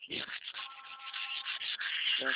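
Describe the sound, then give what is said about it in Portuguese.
Steady scratchy rasping of sandpaper worked by a painter against a wooden door frame, continuous for a couple of seconds with slight strokes in rhythm and a brief voice murmur near the end. “Tá lixando alguma coisa? Tô. O que você tá lixando? Parede? Não, batente pra me pingar.”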